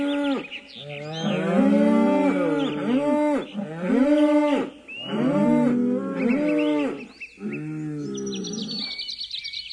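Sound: cows mooing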